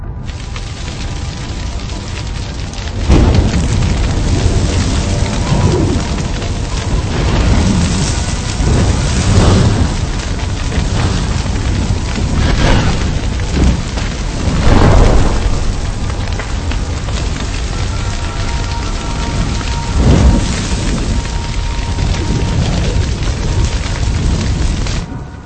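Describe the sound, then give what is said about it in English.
A thunderstorm with steady, heavy rain hissing throughout and several deep, loud rolls of thunder rumbling through at intervals, with no voices; lightning over dry lodgepole pine forest in Yellowstone. “Throughout the summer, the dry lodgepole pines have become like a tinderbox, and lightning has struck the match.”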